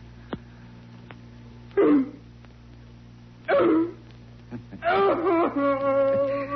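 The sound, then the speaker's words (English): A man imitates a dog on command, being ordered to bark louder, letting out three loud, hoarse barks about a second and a half apart, the last stretched into a whining yelp, over a low steady hum. “Louder. Louder, puppy dog.”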